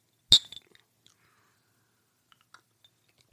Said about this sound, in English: So now we've got this Wyoming whiskey with one little ice cube in it. Cute. We're going to take a little sip, and that should kind of make the flavor a little more robust. Cheers.